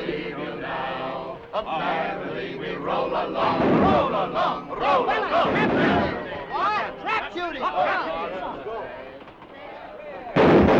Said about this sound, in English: Now others collect their guns and join in the target practice.